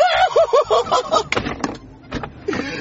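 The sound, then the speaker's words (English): A voice does a nasal chicken-clucking imitation, a quick run of about six rising-falling clucks, followed by a few sharper, choppier squawks. “Bok bok chicken hungers!”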